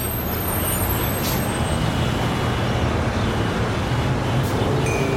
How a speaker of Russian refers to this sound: Идемте. Вот и наш автобус.